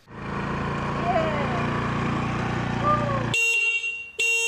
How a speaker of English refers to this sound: Yeah, when you hit that horn, there is no way you could feel like a man. Is it loud enough? As soon as you hit the horn, forget it. You might as well just go park the scooter somewhere. It's so embarrassing.